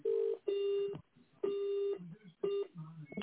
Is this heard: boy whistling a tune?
no